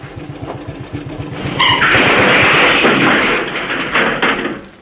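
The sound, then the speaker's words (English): A steamroller's heavy diesel engine, started up from the cabin, chugs in a steady low rhythm, then bursts into a loud, rough roar that holds for several seconds before easing slightly, with no voices. “Now, there's the steamroller. The driver's just gone to lunch. Jump up in the cabin and start it up.”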